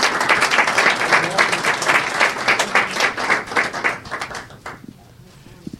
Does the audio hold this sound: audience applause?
yes